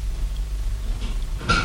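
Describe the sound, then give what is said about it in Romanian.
A door opens near the end with a brief click and scrape, breaking a steady low rumble that fills the background. No one speaks. “Ușa se deschide și în prag apare o negresă.”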